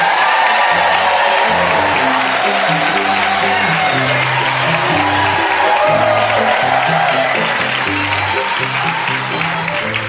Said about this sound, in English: No, I didn't prep that audience. They just clap like that because they love us all.